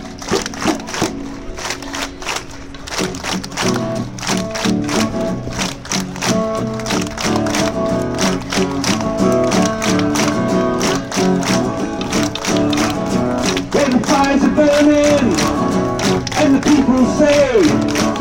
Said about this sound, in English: Now I know there are lots of Arabs here today, and I know from personal experience that Arabs are very good at clapping. So I need your help. One trick is that you just have to keep going for about 3 minutes.